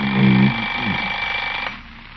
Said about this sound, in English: Alarm.